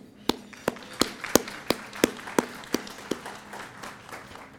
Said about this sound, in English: I'd ask for a round of applause each morning for them, please.